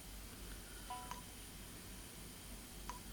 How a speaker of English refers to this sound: All right, so it's been beeping. It should have loaded.